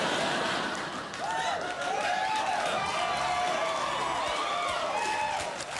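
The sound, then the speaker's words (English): A studio audience whoops and woos loudly, many voices rising and falling in overlapping cheers over a dense wash of crowd noise and applause, steady for several seconds. “Now you're openly wooing at it.”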